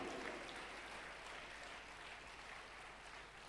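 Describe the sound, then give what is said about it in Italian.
An audience claps together to applaud and bless the name of Jesus, a steady, dense wash of applause from many people that holds evenly for a few seconds, with no voices standing out. “Vogliamo applaudire e benedire il nome di Gesù.”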